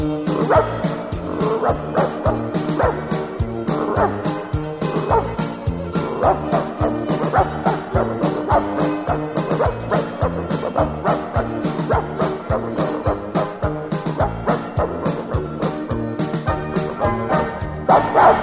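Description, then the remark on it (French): A small dog's yapping barks and high yips repeat in quick, rhythmic bursts over a steady, loud backing of music that runs throughout. “il aime son petit chien”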